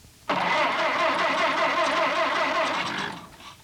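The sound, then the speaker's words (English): A car engine roars to life abruptly and runs loud and steady for about three seconds as the car is driven straight down the road, a humming motor rumble that fades quickly at the end, with no voices. “I'd like you to drive the car straight down the road.”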